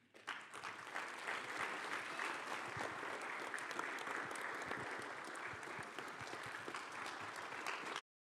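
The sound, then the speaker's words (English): A church audience claps together in sustained, steady applause to welcome people into the church, lasting several seconds at even loudness before stopping abruptly. “And then I want you guys to help us to welcome them into the church as you guys, once they start clapping, then you guys can go have a seat on this front row here.”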